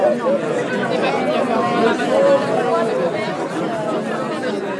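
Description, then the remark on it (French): A large crowd gathered outdoors in front of the château de Benat chatters, many overlapping voices forming a steady, dense babble with no single speaker standing out, holding at an even level throughout. “Il y avait une foule rassemblée devant le château.”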